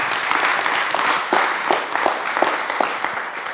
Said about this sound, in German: Insofern dürft ihr jetzt klatschen und ich höre auf zu reden.